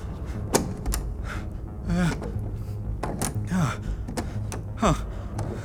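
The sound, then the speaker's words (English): A stuck door to a control room gets shoved repeatedly, giving dull thumps and rattles but never swinging open, with strained grunts and gasps of effort between the pushes. “why is the door to the control room not opening?”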